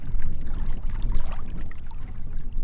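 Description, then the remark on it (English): Wind-blown ripples and small waves lap and slosh steadily against the shore of a little reservoir outside the water treatment plant in Superior, in the foothills, on a cool, windy day: a continuous watery splashing with a low rumbling undertone from the wind. “Ripples and waves are blowing across the little reservoir outside of Superior's water treatment plant.”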